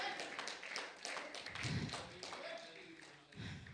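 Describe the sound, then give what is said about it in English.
An audience claps hands in praise to God in a burst of scattered, overlapping applause, moderately loud and sustained, with a faint murmur of voices underneath. “Somebody give God a hand clap of praise.”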